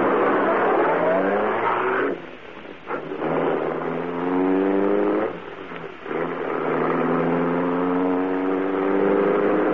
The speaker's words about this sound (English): Britt Reed pressed a button. The great car roared into life. The section of wall in front raised automatically, then closed as the gleaming Black Beauty sped into the darkness.